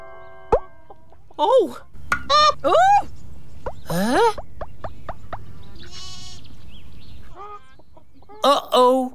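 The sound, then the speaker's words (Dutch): Chickens cluck in a series of short, bright bursts, with a few sharp clicks between them, then pause briefly before another quick volley of clucking. “Ze heeft nog één ei nodig van één van haar kippen.”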